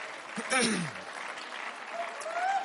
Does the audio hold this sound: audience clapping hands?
yes